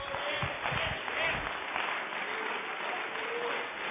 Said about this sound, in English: Why don't we clap our hands unto the Lord?